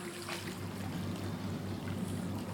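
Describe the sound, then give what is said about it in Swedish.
A steady, continuous wash of moving water fills an indoor pool hall with large windows at Habogård in Lomma, with women in the pool and air at 29 degrees. A low mechanical hum runs underneath, no voices, the sound staying even and moderately loud throughout. “Stämningen är hög i bassänghallen som har stora fönster mot grönskan utanför.”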